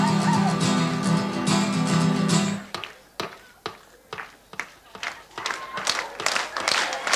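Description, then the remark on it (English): A loud, dense wash of crowd noise gives way to an audience clapping their hands and stamping their feet as a live Irish song, the Galway Races, begins, sharp thuds landing in a loose, uneven rhythm that grows busier toward the end. “If you feel like clapping your hands or stamping your feet or winding your watches or clearing your throats or doing anything like that, have a ging at it.”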